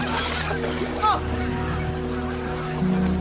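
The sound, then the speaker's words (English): A goose honks once, briefly, over a steady low engine-like drone that runs throughout, with indistinct voices faintly in the background. “Oh, that's the geese.”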